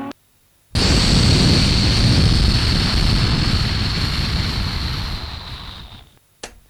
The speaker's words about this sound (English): Well, it's me back. You heard a little zhoosh of my car, you know. I told you the car.